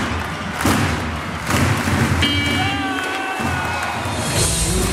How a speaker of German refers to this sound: Und so klang das dann bei der Schlusssirene im Telekom-Dom vor 5.700 zufriedenen Zuschauern.